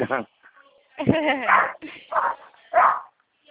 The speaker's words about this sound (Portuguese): Cachorro tá bravo, né? Tá, tá cachorro bravo.